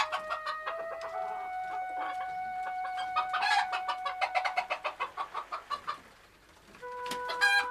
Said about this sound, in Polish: Gapi się, co tam kury robią, czy bawi, jakie są układy i zaloty.